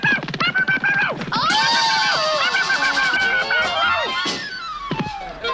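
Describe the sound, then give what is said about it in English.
A woman lets out a loud, high-pitched scream on catching sight of a man, beginning with a few short broken cries before breaking into a long, sustained wail that wavers and trails off near the end. “What was that scream?”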